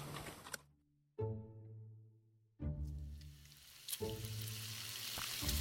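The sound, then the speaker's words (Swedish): Pork sizzles loudly in a frying pan, a steady crackling hiss over a low humming drone that cuts out briefly twice before surging back and building toward the end. “Och då var det att min brandman satte igång och tjuta på grund av att jag stekte fläsk.”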